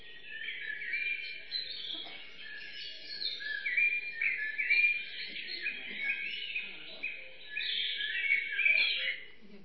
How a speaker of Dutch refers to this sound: En we hebben nog hele mooie stille plekjes bij ons op Kronenmijn het Loo. Als daar geen vliegtuig overheen komt, dan hoor je er verder helemaal niets. Dan hoor je geen auto, dan hoor je geen trein. Alleen dat vogelconcert, dat ruime hemel rond,